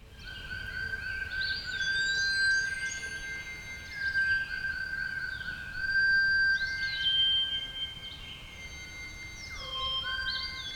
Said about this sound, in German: Der Baum erzitterte und aus dem dichten Laub seiner Krone tauchte der seltsame, geheimnisvolle Vogel auf. Und plötzlich erklang aus seiner Kehle ein honigsüßer Gesang.